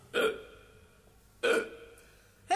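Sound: hiccup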